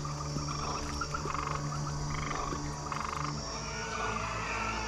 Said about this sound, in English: Let the waters bring forth frogs in abundance. The stinking blood water suddenly produced millions of frogs.